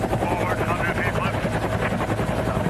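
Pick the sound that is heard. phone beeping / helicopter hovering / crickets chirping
helicopter hovering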